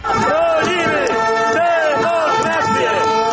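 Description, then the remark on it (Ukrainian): A large protest crowd in Poland, protesting new laws on the courts, chants a slogan in unison about defending democracy and the courts, loud rhythmic shouting with rising and falling voiced phrases repeating roughly every half second, steady and sustained throughout. “Такі вигуки лунали на акціях протесту, які прокотилися останніми днями по найбільших містах Польщі і далі тривають під стінами польського парламенту.”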